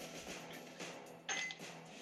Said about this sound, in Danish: Kan stadig høre isterningerne nede i glasset.